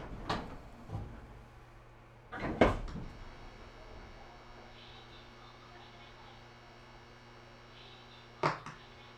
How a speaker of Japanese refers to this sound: 扉が開きます。扉にご注意ください。